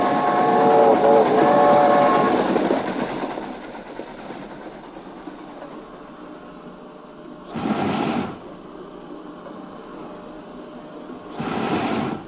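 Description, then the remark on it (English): An iron lung for a polio victim pumps in slow, rhythmic whooshing bursts, two of them a few seconds apart, over the steady rumbling noise inside a specially prepared moving railroad car. No one speaks. “For that rhythmical pumping is the sound of an iron lung, working unceasingly inside a specially prepared railroad car as it carries a victim of polio”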